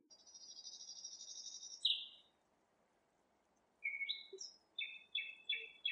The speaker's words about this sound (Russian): И тотчас же соловьиное щелканье, отдававшееся по саду, стало слышнее, напряженная тишина исчезла, и грудь свободно вздохнула душистой сыростью ночи.